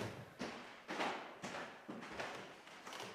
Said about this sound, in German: Da müssen wir aber ordentlich die Knarrtreppen hoch.